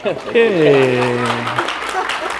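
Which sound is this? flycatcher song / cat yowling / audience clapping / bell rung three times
audience clapping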